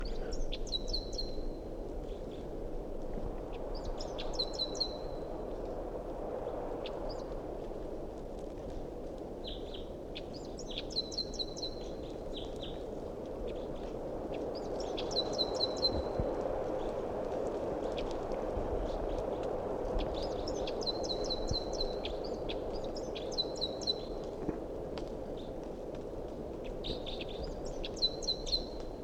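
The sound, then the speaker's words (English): A wild bird calls repeatedly in short bursts of high, warbling chirps, recurring every few seconds over a steady low background rumble with no talking. “Now back to the wild bird.”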